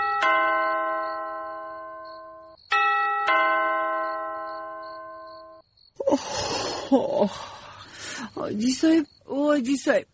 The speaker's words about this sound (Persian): بخی تو که زنگ دروازه است، تو بیبی که کی هست ده ای وقت شب؟ آه ده ای نیم شب کی هست؟